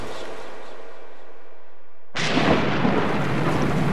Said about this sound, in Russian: Ночь, шторм, где-то в Атлантике. В кромешной темноте вокруг меня пляшут сумасшедшие водяные горы. Стараюсь держать лодку носом к волне.